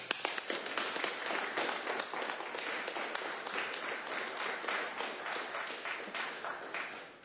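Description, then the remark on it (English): Steady audience applause, a dense wash of many hands clapping at a fairly even loudness for several seconds before easing off at the end, with no voices heard. “Well, I'm sure that applause wasn't because my name was mentioned.”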